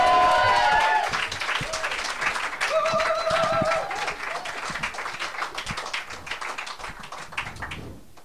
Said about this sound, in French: Et bon, on va lui faire un grand tonnerre d'applaudissements.